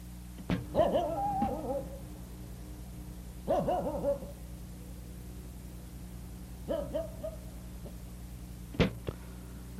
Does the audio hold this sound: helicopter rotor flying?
no